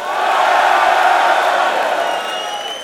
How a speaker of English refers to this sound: You've been a fantastic audience tonight. Thank you very much. Thank you. Give yourselves a big cheer. Come on.